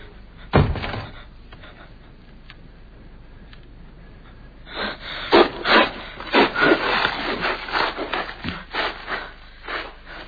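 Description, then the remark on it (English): A glass splinter saws back and forth through rope in repeated rough, rasping strokes, a quarter inch at a time, starting after a single sharp knock and a quiet stretch, then growing louder in an uneven rhythm. “My dead fingers gripping the splinter of glass, soaring it back and forth, a quarter inch at a time.”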